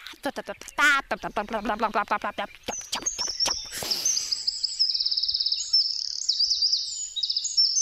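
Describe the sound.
A human voice briefly imitates a trill, then a Eurasian wren bursts into loud song on the way back to a mountain pasture hut: a long, rapid sequence of high, shrill trills and sharp notes, running continuously to the end.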